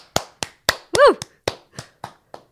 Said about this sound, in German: Finally. Applaus.